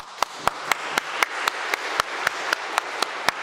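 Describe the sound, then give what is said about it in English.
An audience applauds, with sharp, steady claps about four per second standing out above a dense wash of scattered clapping. No one speaks. “You can clap.”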